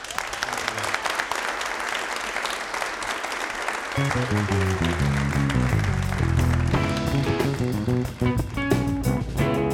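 An audience at the Red Barn Radio show in Lexington applauds a band in a dense, steady wash of clapping for about four seconds, then the band starts playing and the music carries on over the fading applause.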